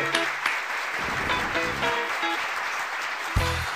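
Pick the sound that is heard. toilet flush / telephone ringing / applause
applause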